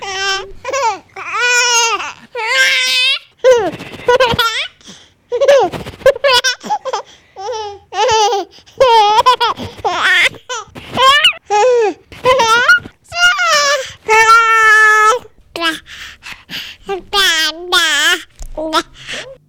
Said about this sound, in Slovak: niet toho človeka na zemi, kto by sa netešil, keď príde na svet holé a bezbranné dieťa, a určite sa všetkým z nás rozjasní tvár, keď začujeme tento hlások.